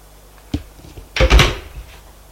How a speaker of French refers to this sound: On frappe à la porte.